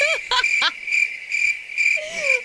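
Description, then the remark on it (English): Crickets chirp in a steady high-pitched trill that swells and fades in regular pulses, with a few brief warbling calls over the top and no talking. “Where's the crickets thing go?”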